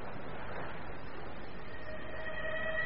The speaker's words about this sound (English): Look, there's a train running along the railway line down there. It looks just like a toy one. It's going to Beckton. See, there's the station. It's stopping there. It really does look like a toy train. Now it's off again.